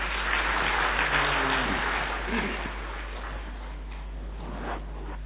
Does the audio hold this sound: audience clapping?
yes